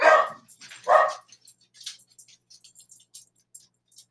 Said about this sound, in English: I don't know why my dogs are barking.